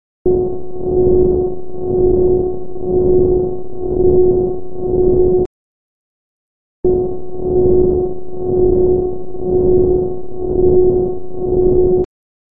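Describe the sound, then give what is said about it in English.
A steady electronic hum with a strong pitched tone and soft overtones, swelling and dipping in slow regular pulses, plays for about five seconds, stops for a beat of silence, then repeats. It is sonified real-time solar PV generation data covering 63 months and five winters, low-pass filtered and resampled. “Here is what 63 months of real-time PV generation sounds like, fully covering 5 winters, with similar low-pass filtering and resampling to before.”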